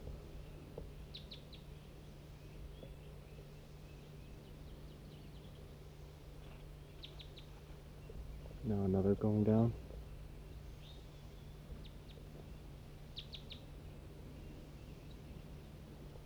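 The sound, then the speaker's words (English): A whole big flock of wild birds chirps in a tree directly above: faint, high, clustered tweets scattered irregularly over a low steady hum, with a man briefly speaking partway through. “There must be a whole big flock in this tree right above me.”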